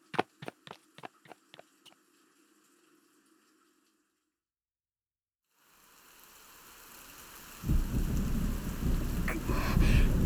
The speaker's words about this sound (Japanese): 雨足がさらに強く。まさか、ここまでの荒れ模様になるなんて。もはや嵐のよう。